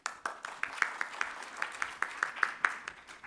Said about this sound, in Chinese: 云端时代客户关系管理大趋势与新应用，请掌声欢迎。